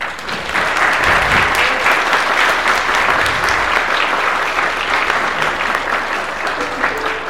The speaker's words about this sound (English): Together we will give thanks and praise to God and proclaim good news to all the world. Please join me in celebrating them with applause.